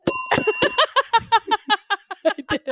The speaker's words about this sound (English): Did you just hit the bell with your face? Well, I have to glance get down low. Up, and I thought, no, but I thought you were like hitting the bell with your nose like a little woodpecker.